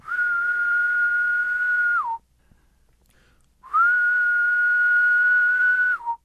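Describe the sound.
Two long, steady whistled tones, each about two seconds, held at a fairly high pitch and ending with a quick downward slur, separated by a short pause. A person imitating the main calling song of a male decim periodical cicada.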